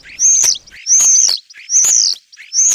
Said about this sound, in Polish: Uwaga, uwaga, szpak robi tak.